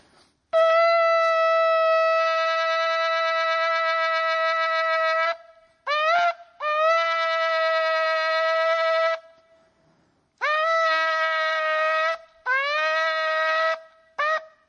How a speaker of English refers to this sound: Now, don't make fun of me because it's probably going to squeak because I'm not a shofar blower. But I'm just going to be obedient. We're just going to blow it for however God's going to do what he's going to do.